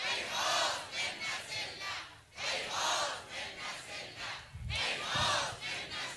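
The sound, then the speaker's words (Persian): A large crowd shouts a chanted slogan in loud, rhythmic waves, the massed voices rising and falling in repeated phrases with brief dips between bursts. “ما هم از اونها حمایت می کنیم، پشت سرشون شب و روز ایستاده ایم و فریاد بر می آوریم که هیهات من نزد الله.”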